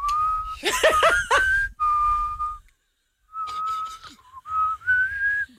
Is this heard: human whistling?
yes